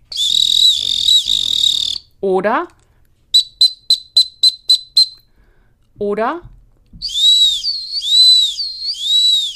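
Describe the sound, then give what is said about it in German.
Shrill high-pitched dog training whistle blasts giving the small search signal in dog dummy training: a sustained trill, a rapid series of about seven short sharp pips, then a warbling tone, with a man's brief speech in between. “So, und das war jetzt der kleine Suchenpfiff.”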